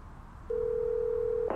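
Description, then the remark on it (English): A steady telephone dial tone hums for about a second over a quiet background, then cuts off abruptly into a short burst of noise. “The day before the SCA deposition, I received a phone call from him.”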